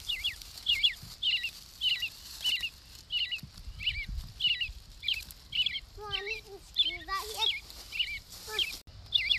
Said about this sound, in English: You heard a robin? You hear that? I do hear some birds. Is that the robin? Let's listen.